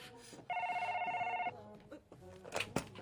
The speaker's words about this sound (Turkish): İcazənizlə, mən gedim telefona cavab verim.